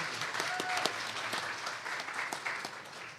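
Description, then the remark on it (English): A church audience claps steadily in thanks for a repaired baptismal, a dense wash of many hands with sharp individual claps popping out, sustained at an even level throughout with no talking over it. “Actually, I think that's a round of applause worth it.”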